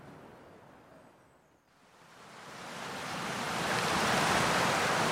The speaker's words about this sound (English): There's been so much rain here recently. The water is just pouring off these hills.